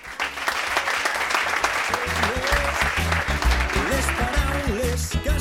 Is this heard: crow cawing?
no